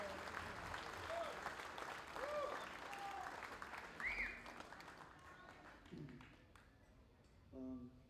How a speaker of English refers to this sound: Thank you. Round of applause for them, please. It's an honor to be playing with them.